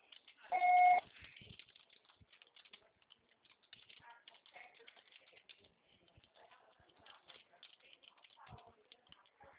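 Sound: answering machine beep tone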